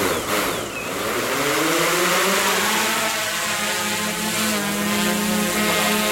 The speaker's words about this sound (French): Donc là, le drone va monter jusqu'en haut du sapin. Ouais, correctement, on doit s'élever d'ailleurs. Donc là, je vais me positionner au niveau du nid. Alors, actuellement, le drone est, on va dire, à une dizaine de mètres.